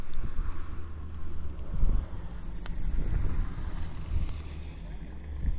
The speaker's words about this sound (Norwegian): kommet seg ut på banen i en gul gammel golf. Vi ser om vi hører noe lyd ifra han.